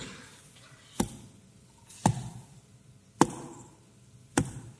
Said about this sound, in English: As they dropped their stones. You heard the thuds of the stones, and they began to file out of the temple